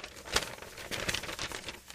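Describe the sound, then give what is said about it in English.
Paper rustling and crinkling as a blank sheet is picked up and handled, with a sharper crackle near the start and a few more quick crinkles after, no voices. “I need a blank piece of paper to hold.”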